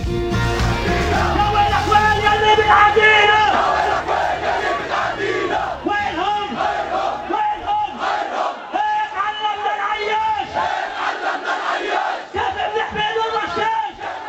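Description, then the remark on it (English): A large crowd in Gaza chants loudly in unison, many voices shouting rhythmic, repeated phrases calling to kill Jewish people, with a fierce, rallying intensity that stays strong throughout. “It's not just a crowd chanting and wanting to kill Jews.”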